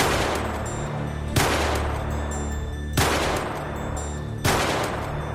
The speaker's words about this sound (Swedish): Han skjuter 4 skott mot toalettdörren.